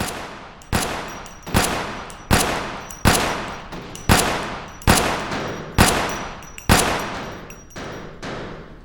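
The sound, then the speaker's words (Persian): A volley of gunfire: about nine loud, sharp shots at a steady, roughly one-per-second pace, each with a short decaying echo, with no talking. “آماده است شلیک.”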